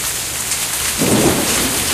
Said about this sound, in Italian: E allora, una pioggia di aprile ci introduce in questa serata.